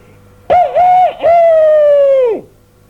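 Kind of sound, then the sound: bird, rooster crowing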